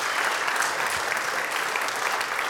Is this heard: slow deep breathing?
no